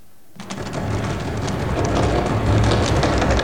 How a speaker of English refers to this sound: The door handle to the adjoining room starts to rattle violently, and a gust of wind blows through the window and extinguishes the candle.